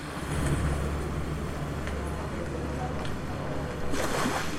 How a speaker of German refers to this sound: Es schwappt, schäumt und dann ist es wieder ganz leise. Über Sand auf dem Boden schlendert das Publikum und lauscht Geräuschen von den Küsten Europas aus 24 Lautsprechern, überall im Raum verteilt.